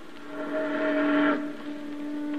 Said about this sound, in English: A steamboat.